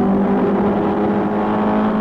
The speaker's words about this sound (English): Le Mans, France, June 1967. You're listening to the car that won, the Ford Mark IV